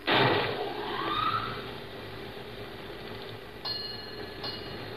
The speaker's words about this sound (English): Fog's coming in. The mate says to start the bell. I was afraid it was getting too quiet around here.